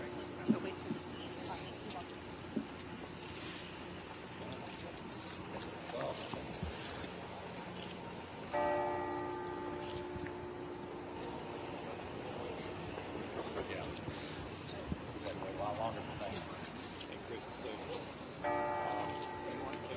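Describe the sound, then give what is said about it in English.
Church bells ring out from a church across the way over a murmuring outdoor crowd at a governor's swearing-in in Missouri, with struck tones that hum and linger before fading; the bells take about 110 seconds to ring. “And the bells begin to ring now early at the church across the way.”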